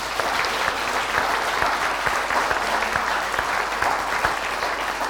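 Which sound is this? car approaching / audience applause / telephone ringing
audience applause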